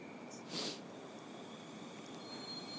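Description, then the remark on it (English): A train pulls away from a station in a steady rumble, with a brief hissing burst near the start and faint metallic whines from the wheels as it moves off. “And it's off.”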